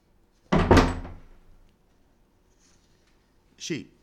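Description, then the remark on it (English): A door on a house's back porch swings shut with a solid thud that rings out briefly, followed a few seconds later by a shorter, sharper knock or latch sound. “That there is the door. Use it.”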